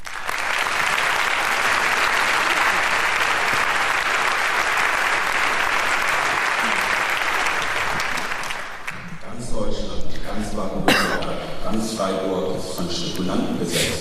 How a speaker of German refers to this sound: Deswegen bitte begrüßt unsere vier hier mit einem großen herzlichen Applaus.